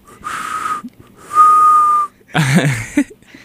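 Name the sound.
person attempting to whistle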